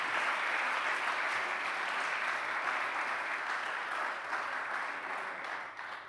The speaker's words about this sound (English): I wonder if you could clap your hands to the Lord.